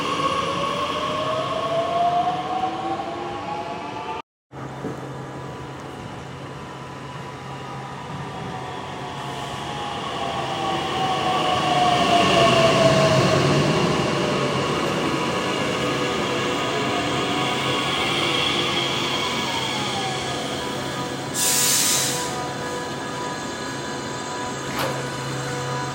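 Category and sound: vehicle, train arriving at station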